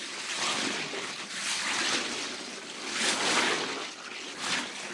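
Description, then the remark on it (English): An elephant, il lento elefante, sucks up water and sprays it from its trunk at Nico the cat: a hissing gush of spraying water that swells and ebbs in several surges over five seconds, with no voices. “Il lento elefante sucked water up its trunk and sprayed Nico.”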